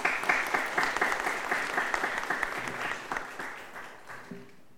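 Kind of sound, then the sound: crowd, audience applauding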